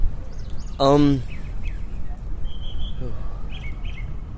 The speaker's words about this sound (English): Now, all the evidence that God has given you, the trees, look at the beautiful plants right next to us, the birds singing in the background, gave you a huge universe